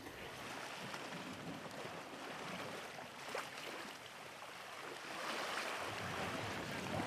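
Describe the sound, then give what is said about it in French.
Steady wash of harbour water lapping around light boats moored to a pontoon in a port, the pontoon known as the fishermen's pontoon; a continuous soft splashing and rushing noise, with no voices and a slight swell in level toward the end. “On s'est arrêté là sur le port, devant un ponton auquel sont amarrés les bateaux légers.”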